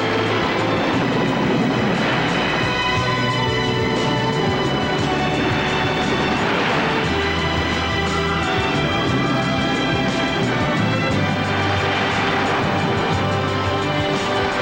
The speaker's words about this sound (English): That night, the storm breaks. Fierce winds and mountainous seas batter the schooner.